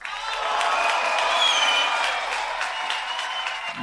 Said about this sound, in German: Einen großen Applaus bitte für Erich Fenninger.